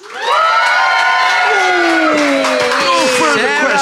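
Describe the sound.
A loud audience bursts into cheering and applause, voting by applause for one side in a dispute, with many voices whooping and shouting over a sustained wash of clapping for a few seconds.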